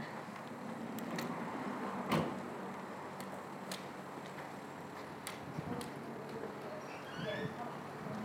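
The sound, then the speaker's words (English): A door shuts with a single solid thump, followed by a few light clicks and knocks, with faint murmuring voices in the background. “Now that's the door there. I hear it now.”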